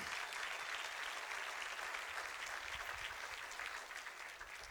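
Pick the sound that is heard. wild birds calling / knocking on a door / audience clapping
audience clapping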